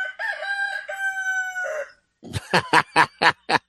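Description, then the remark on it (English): A recording of a rooster played on ESPN Radio crows loudly, one long drawn-out cock-a-doodle-doo, followed by a rapid series of six sharp, punchy bursts after a brief pause. “And if our good man Mario can just hit that button and let that bird give a little scream.”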